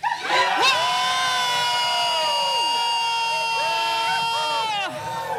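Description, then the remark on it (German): An audience lets out a victory cry in Jesus' name after a count of three, erupting in a sustained, loud collective shout, many voices whooping and cheering together with high-pitched wails rising and falling, holding steady for several seconds before tapering slightly. “Und wenn du es im Herzen hast, lass dieses Siegeschrei raus in Jesu Namen.”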